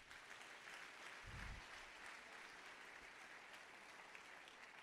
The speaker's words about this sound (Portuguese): Então levanta a mão e dá glória para ele. Pode aplaudir.